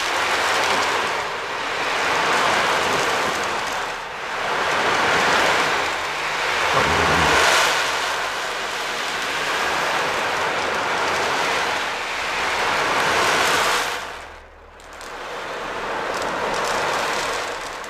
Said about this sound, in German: Und ein absoluter Hit bei meinem Sohn ist die Ocean Drum. Und das ist eine Trommel, die das Rauschen des Meeres sozusagen imitieren soll. Ich kann sie vielleicht mal kurz ein bisschen anspielen.